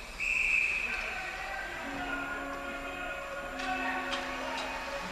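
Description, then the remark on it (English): A referee's whistle gives one shrill, steady blast lasting under a second over a constant crowd murmur during a Middlebury ice hockey game. Low hum and scattered sharp knocks follow once the whistle stops. “And we've got a whistle here.”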